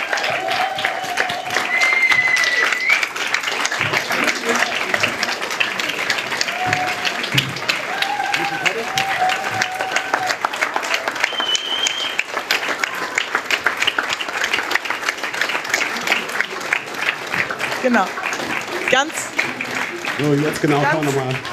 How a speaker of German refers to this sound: Einen herzlichen Applaus für die Mentorinnen und Mentoren.